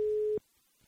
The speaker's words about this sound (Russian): Итак, номер телефона набран, осталось лишь... Гудки даже слышно, это тоже хорошо.